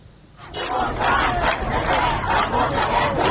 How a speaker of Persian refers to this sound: دخترانی که روسری‌هایشان را به آتش می‌کشند، مردان و زنان خشمگینی که در خیابان‌ها فریاد می‌کشند، و آن سو شلیک گلوله و گاز اشک‌آور، باتون و شوکر، سرکوب و سرکوب.